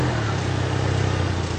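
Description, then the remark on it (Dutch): A car engine rumbles steadily at low revs, an even drone as the 1.99-metre car creeps slowly forward into a tight garage, driven in to the millimetre, with no voices. “We gaan nog binnenrijden, niet.”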